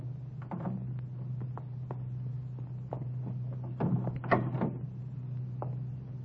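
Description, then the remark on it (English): A car door opens and shuts softly over a steady low engine idle, the car stopped around the corner from a filling station, with a few faint clicks and muffled thumps, the main clunks coming close together near the end. “We stopped around the corner from the filling station. Easy on the door when you get out.”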